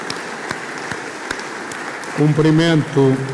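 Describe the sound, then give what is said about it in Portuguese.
A crowd at Portugal's Assembleia da República applauds diplomats representing Portugal abroad and representatives of foreign nations and international organizations, in a steady, dense wash of clapping with a few sharper claps standing out, then a voice begins speaking over the fading applause. “Peço, pois, uma salva de palmas para este magnífico grupo.”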